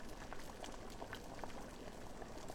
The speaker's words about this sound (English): The water is boiling. Suppose we have tea.